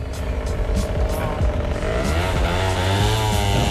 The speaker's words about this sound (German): das ist mir immer aufgefallen, wenn du in Italien bist, hörst du einfach irgendwie nur immer Auspuff und Auspuff. Musst du mal hören.